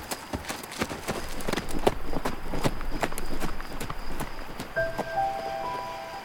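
A buckskin horse's hooves clip-clop steadily at a walking pace up a lane to a farmhouse close to midnight, fairly loud, with a few brief tonal whistles or chirps appearing near the end.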